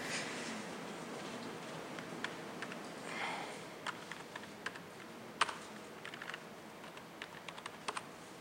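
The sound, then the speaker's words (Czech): Irregular, slow clicks of typing on an unfamiliar computer keyboard while adding a line to an Xorg configuration, fairly quiet, with uneven bursts and pauses over a soft background hiss; no one speaks. “Já se omlouvám, nejsem zvyklý na tohle klávesnici, takže to bude pomalejc.”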